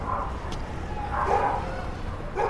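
A dog barks a few times in short, somewhat muffled bursts over a steady low rumble of background noise, with no one speaking.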